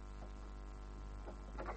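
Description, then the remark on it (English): A key rattles and turns in a door lock as the door is locked, giving a few short metallic clicks and scrapes, the last pair closest together, over a steady low electrical hum. “I'll just lock this.”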